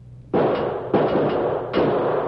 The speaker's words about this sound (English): Never mind the key, you fool. Use your six gun and blast the lock to pieces. It'll be awful noisy, boss.